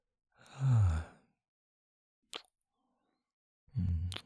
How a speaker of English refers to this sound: You are breathing so heavy.